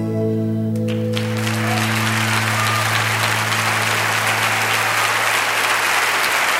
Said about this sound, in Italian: come sentite dai applausi scroscianti